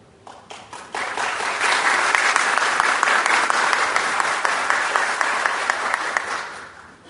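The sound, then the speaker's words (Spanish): An audience applauds steadily for several seconds at the opening panel of an INEFOP event, a dense crackle of many hands clapping that swells quickly, holds at a strong level, then tapers off at the end. “Lo bueno acá, primero vienen los aplausos y después uno habla, así que en realidad esto está muy bueno.”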